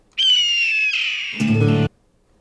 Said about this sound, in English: All right, hope you can tolerate the screeching that just came out of the bald eagle.